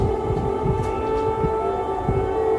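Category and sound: signal or alarm, air raid siren blaring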